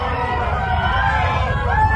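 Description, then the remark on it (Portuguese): A dense crowd commotion of many Israelites running away and crying out at once that the earth will swallow them too, a loud continuous roar of overlapping voices and rumbling footsteps with wavering shouts rising above it. “Quando ouviram os gritos deles, todos os israelitas que estavam ali saíram correndo e gritando: A terra vai engolir a gente também!”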